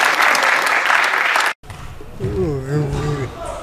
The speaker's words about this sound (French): Voilà, s'il vous plaît, si vous pouvez les applaudir, s'il vous plaît.